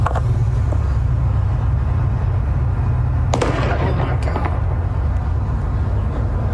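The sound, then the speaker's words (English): A sharp, loud bang cracks out against a steady low rumble, followed moments later by a second, quicker report: a man standing outside his car near another vehicle fires a gun held in his right hand, amid traffic or crowd noise. “outside of his car, and he approaches another vehicle, appears to yell something before pulling the trigger at least once.”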